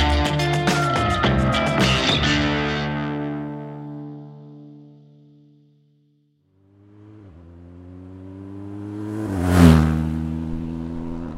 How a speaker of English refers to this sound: Instead of four paws, I'm on two wheels. I'm on a mission, a motorcycle quest to try and retrace the path of Germany's wolves, following them westward from Poland into the former East Germany.